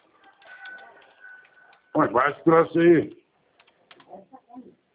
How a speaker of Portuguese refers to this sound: Tô aqui, tô digitando, tô na linha, tô. Não tem pressa, eu tô trabalhando aqui também.